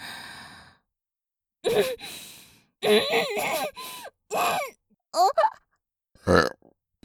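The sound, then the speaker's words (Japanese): A breathy sigh followed by a series of short, throaty burps in uneven bursts, each separated by brief pauses, with no talking. “残念ゲップが出てしまいましたね。”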